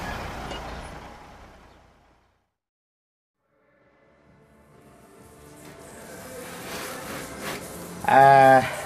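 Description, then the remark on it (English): After a brief lull, a lorry's engine rumble grows steadily louder as it approaches, ending in a sudden loud, squealing burst from its air brakes. “Ah, here's the lorry.”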